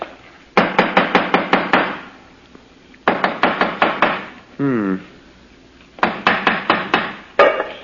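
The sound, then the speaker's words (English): A hammer taps against a stone in the corner of a house wall, sounding hollow, in three quick bursts of six or seven sharp, ringing knocks each. A short voiced sound briefly breaks in between the second and third bursts. “Let me have the hammer”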